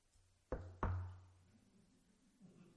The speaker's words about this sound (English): Knock on wood.